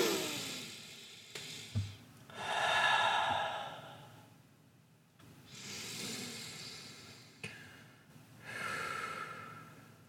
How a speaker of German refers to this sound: Man kann mal atmen. Atmen ist immer gut.